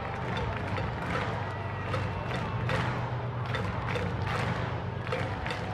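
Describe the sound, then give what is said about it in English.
A steady wash of boisterous crowd noise fills NBT Bank Stadium at a night baseball game, with many overlapping voices murmuring and occasional louder bursts of cheering or clapping rising above the continuous roar. “A boisterous crowd here at NBT Bank Stadium tonight.”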